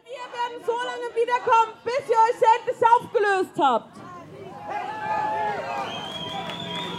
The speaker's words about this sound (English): They have banners, they have megaphones, they're chanting, they're shouting. There's police trying to sort of control them. It's not a big crowd, but it's a very noisy crowd.